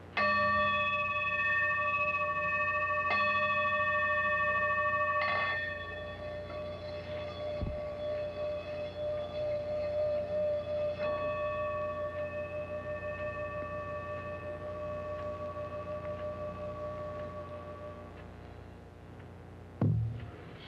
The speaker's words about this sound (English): It's a singing bowl that helps again to just center the energy and resonates all through your body. I can vouch for that.